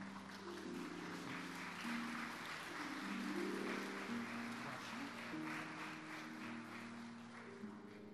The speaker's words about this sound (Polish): I specjalne oklaski.